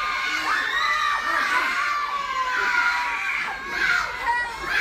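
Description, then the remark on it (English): A group of school children in the UK, during a CPR training session, practise shouting for help loudly and continuously, their high overlapping voices rising and falling in a chaotic chorus of calls for help, energetic throughout. “Well, they've certainly got the shouting for help part sorted.”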